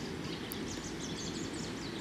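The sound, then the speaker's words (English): Steady running water rushes continuously, with small birds chirping and twittering faintly above the flow. No voices. “Sound of water running in the background, but also the birds.”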